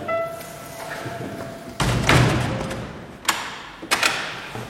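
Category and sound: household object, door closing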